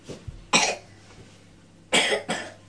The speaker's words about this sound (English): Are you a little bit poorly? Yes. You're coughing? Yes.